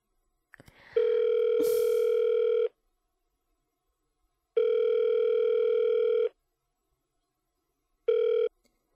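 phone call ringing tone

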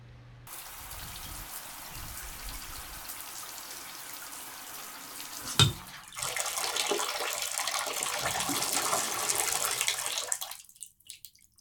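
shower running water

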